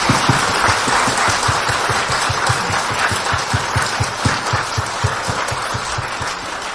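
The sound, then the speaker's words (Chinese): Sustained audience applause for Campbell at a Huafan University event, a dense steady wash of many hands clapping at an even, loud level for several seconds with no voices over it. “我们再次热烈掌声，谢谢 Campbell。”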